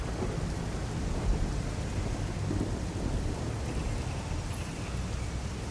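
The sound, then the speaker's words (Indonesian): Steady heavy rain pours down in a dense, continuous hiss with a deep low rumble underneath, like a storm. No one speaks. “Namun tidak ada pertanda hujan ini akan reda.”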